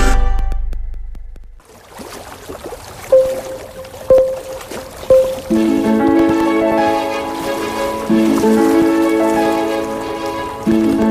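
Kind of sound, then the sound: nature, water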